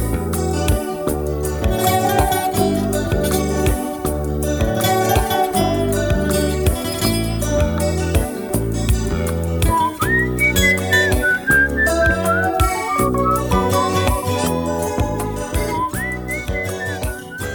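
A Brazilian pop song plays continuously at steady volume, with a pulsing rhythmic beat, layered instruments and a high, whistle-like melodic line gliding over the second half.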